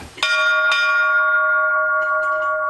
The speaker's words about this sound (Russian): Колокольный звон – это не мелодия, это все-таки больше ритмический рисунок, потому что никогда звонари на Руси не звонили по нотам. Это попевки, а как я буду звонить, я никогда не знаю до того момента, как не поднимусь на колокольню.